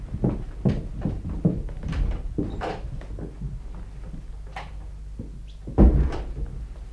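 door opening and closing

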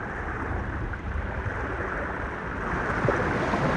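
sea waves

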